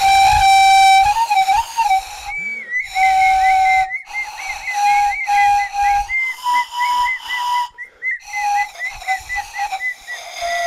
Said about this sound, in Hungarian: Ott a síp, Tomi. Ezen fogjuk játszani az új intrózenét.